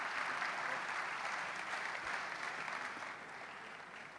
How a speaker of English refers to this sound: Ladies and gentlemen, can I give you, with a big round of applause